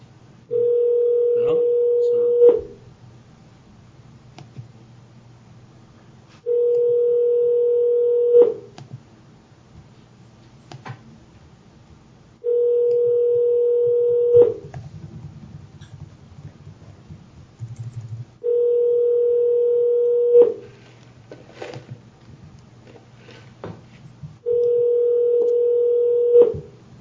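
A telephone line tone sounds in five long, steady beeps, each about two seconds, repeating at even intervals. Faint clicks and soft background noise fill the gaps between them.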